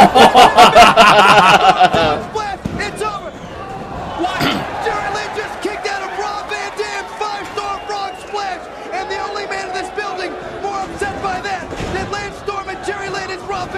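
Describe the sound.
A loud metallic crash of a steel chair strike rings out amid crowd noise at a wrestling match, followed by scattered impact thuds of body slams and ongoing chatter, with voices talking throughout over a busy arena-like background.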